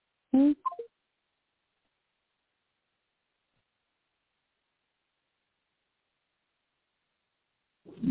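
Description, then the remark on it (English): A short cluster of electronic touch-tone beeps from a phone keypad being dialed to call a number back, then a long stretch of silence before a brief low sound at the very end. “Call it back because I'm trying to see something, too.”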